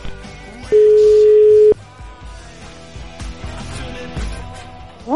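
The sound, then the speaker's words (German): A single steady telephone tone from an outgoing call sounds loud and clear for about a second, then stops, over a busy background music bed. “Schaut mal auf euer Handy, ob ich mich schon gemeldet habe.”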